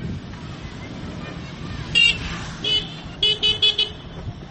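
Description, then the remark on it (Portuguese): A motorcycle horn beeps at a roundabout to warn oncoming traffic, one short honk, then another, then a quick run of four rapid toots, loud over steady traffic and engine rumble. “Essa buzina é para avisar para quem vem. Por exemplo, aqui na rotunda.”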